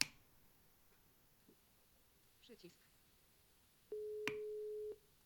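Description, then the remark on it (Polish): A phone ringback tone sounds once after a number is dialed to place a call: a steady, fairly low electronic beep lasting about a second, clearly louder than a few faint clicks and rustles before it. “I dzwoni.”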